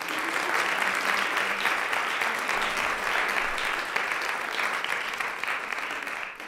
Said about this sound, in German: Das Vorarlberger Kinderdorf hat heute dazu die Autorin Olaolu Facembola eingeladen und wir dürfen Sie schon einmal mit einem herzlichen Applaus bei uns begrüßen.